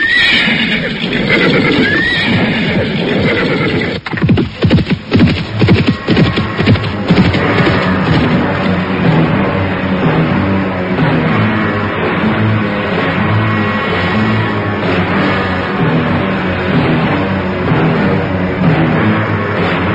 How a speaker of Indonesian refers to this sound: Mereka pun terus berkuda menuruni lereng Gunung Arjuna. Makin lama makin jauh, dan makin jauh. Akhirnya derap kaki kuda mereka pun lenyap di balik tikungan sebuah bukit.